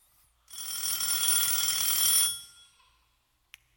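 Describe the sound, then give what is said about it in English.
A telephone rings once in a loud, continuous metallic bell burst lasting almost two seconds, then fades out, followed by a brief faint click. No one speaks. “You see, the chief calls me every morning to check and see how the mission is going. If I don't pick up that phone, he'll know something's gone horribly wrong.”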